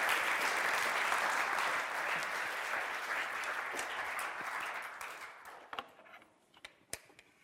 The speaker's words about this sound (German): Sehr cool. Gebt ihm doch einen Applaus.